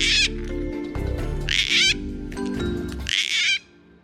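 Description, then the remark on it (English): A gang-gang cockatoo gives three loud, creaky, rasping calls spaced about a second and a half apart, over a steady low musical hum, with no one speaking. “The Biennial Bird of the Year poll is super fun. And go gang gangs.”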